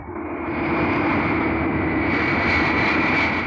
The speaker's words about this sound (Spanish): ¿Los motores trabajan correctamente? Sí, todo correcto, señor.